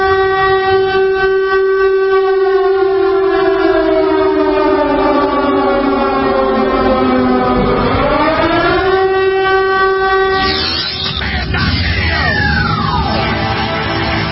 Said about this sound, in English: That involves not only the siren warning system,